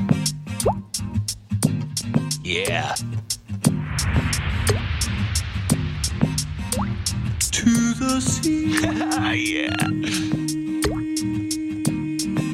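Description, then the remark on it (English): An experimental pop song built around steady, rhythmic dripping water plops over a layered synth and bass bed, with a singing voice coming in briefly and a sustained tone entering late. “Let's have a little listen. It's called … by ….”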